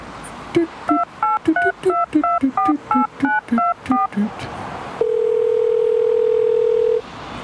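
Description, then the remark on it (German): A quick run of about a dozen touch-tone keypad beeps as a phone number is dialed in a phone booth, followed by a steady, loud telephone tone held for two seconds, clear. “Und will auch telefonieren.”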